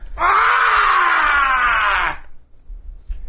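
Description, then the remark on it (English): A man lets out one loud, sustained, strained scream lasting about two seconds, imitating the enraged ranting voice of radio host Alex Jones, then it cuts off abruptly into quiet background noise. “I'm about to give you an Alex Jones scream.”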